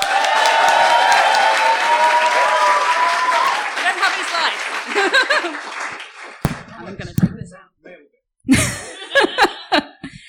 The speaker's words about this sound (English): Everyone, you just did a very good job applauding. I'll ask you to do the same again.